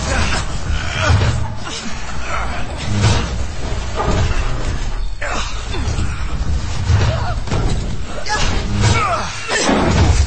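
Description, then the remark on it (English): Loud, repeated bangs and heavy thuds as boxes and metal storage lockers are shoved and slammed into place to barricade a door, clattering almost continuously over ten seconds with a muffled voice or grunt mixed in. “First things first, boxes, lockers. Let's shut those bastards out.”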